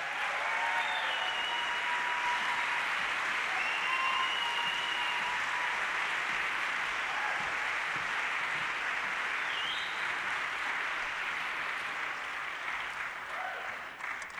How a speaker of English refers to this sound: Please give a big round of applause